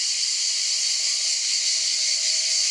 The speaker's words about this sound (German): Und manchmal ändern sich natürlich auch die Geräusche. Das sind manchmal Grillen, die ziemlich laut grillen.